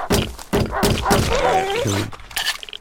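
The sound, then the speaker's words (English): A wolf whimpers and yelps in pained, wavering cries as it is being killed, fairly loud, broken by several dull thumping hits at the start. No one speaks. “I'm gonna kill this wolf.”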